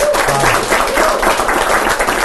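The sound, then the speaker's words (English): A short burst of applause celebrating the Large Hadron Collider running again, dense overlapping hand claps from a small group forming a steady, loud wash of sound with no talking over it. “Yeah, applaud.”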